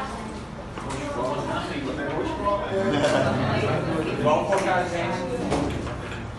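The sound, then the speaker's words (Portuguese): A chair scrapes and drags across a floor in a steady, grinding rumble lasting several seconds, with people talking over it. “Mas, olha, eu acho que dá pra chegar essa cadeira até lá, ó.”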